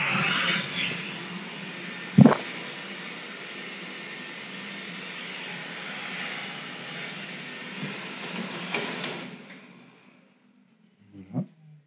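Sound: hair dryer running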